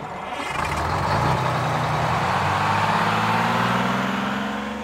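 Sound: bus engine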